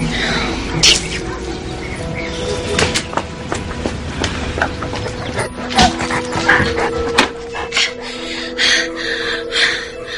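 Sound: dog barking and whimpering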